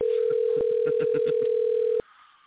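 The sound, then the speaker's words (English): A steady, loud telephone tone hums for about two seconds while a quick series of short beeps, the digits of Thoughtbot's phone number being dialed, pulses over it, then it cuts off abruptly. “So if you understand that, you now know Thoughtbot's phone number.”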